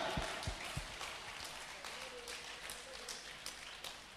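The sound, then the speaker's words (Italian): A crowd applauds steadily during a sermon, clapping to praise God as King, a dense wash of many hands clapping together, with a few sharper individual claps standing out above the rest and some low thumps at the start. “Vogliamo applaudire il re, alleluia!”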